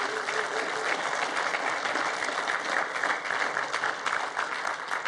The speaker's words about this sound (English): And then if this is your first time here, we just want to welcome you, and we do that around here by clapping for you. So if it's your first time here...